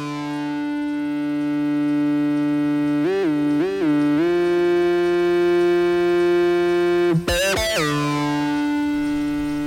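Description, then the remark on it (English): Strange analog synthesizer tones: a steady, buzzy harmonic drone that wobbles through a few quick pitch bends, then breaks into a sharp, swooping glitch before settling again. “The first time I heard these strange tones, I was a kid.”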